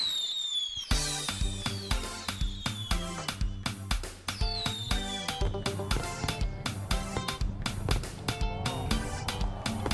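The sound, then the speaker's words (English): Fireworks crackle and pop in quick, rhythmic bursts, with a few whistling streaks, layered over a loud, upbeat music jingle that plays throughout, in a promo for a 2019 fireworks event. “Fireworks 2019 in association with the COSCAP, in association with Armstrong Agencies, and in association with West Indian Waterproofing.”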